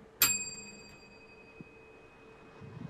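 A single bright bell ding strikes sharply and rings out, its clear metallic tone slowly fading over a couple of seconds with no voices present.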